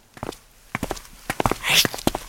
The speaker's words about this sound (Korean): 쉿! 쉿! 이런... 이런 곰탱이 같은 놈들 왜 그렇게 쿵쿵거리면서 들어오고 있는 거야? 세상 사람들 다 듣겠네.